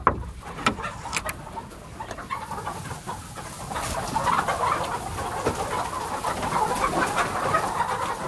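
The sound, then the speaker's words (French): Gâtinaise hens cluck and murmur continuously in a henhouse at the Ferme Lorraine-Milly in Milly-la-Forêt, Essonne. The sound is a dense, steady chatter of soft clucks with a few sharper knocks early on, growing slightly louder toward the end. No one speaks. “Depuis 2016, il est à la ferme Lorraine-Milly, à Milly-la-Forêt, dans l'Essonne, et il est littéralement tombé sous le charme de la gâtinaise. Il nous ouvre les portes de son poulailler.”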